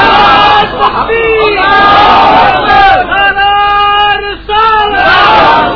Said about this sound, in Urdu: اس طرح نہیں, اگر اس طرح کے نعرے لگانے ہیں تو مجھے چھٹی دیں. آپ نعرہ تکبیر, نعرہ رسالت, یہ بھی اس لیے کہ آکر بھی دائی ہے نا, اس لیے ڈھیلا نعرہ نہیں سنتا.